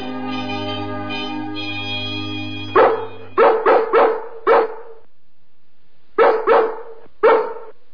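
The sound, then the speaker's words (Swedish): Dogs bark in short, sharp bursts, a quick cluster of about five followed by a pause and three more, loud, after a long steady humming tone fades out. “Skymningsskallet? Men där hör man ju bara skvaller.”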